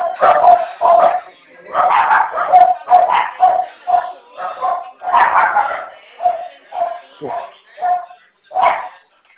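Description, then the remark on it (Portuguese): Several dogs belonging to a man on a phone call bark in a steady string of sharp, overlapping yaps and woofs lasting about nine seconds, loud, with a muffled, narrow telephone-like quality. “Eita, que aí tem bastante cachorro.”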